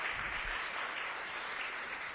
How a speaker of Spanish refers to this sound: Fuerte los aplausos.